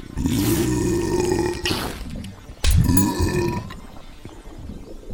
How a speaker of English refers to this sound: This sensation. It feels good. Wait, no. What am I saying? This isn't good. This is wonderful. I want more. More burps. More fat.